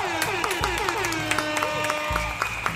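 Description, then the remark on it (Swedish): A brief burst of applause-style clapping with a horn tooting over it, its bright tone sliding in pitch. Loud, lasting only a few seconds, with no voices. “Vi kör en applåd och en liten tuta på det.”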